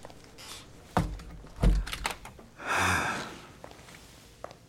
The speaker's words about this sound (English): Do you mind closing the door? Sure.